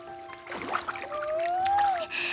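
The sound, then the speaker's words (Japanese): Feet splash into cold, clear river water in a few soft, irregular sloshing bursts over a continuous trickle, with a faint steady whistling tone running underneath. “ねえ、川に足つけてみよう。”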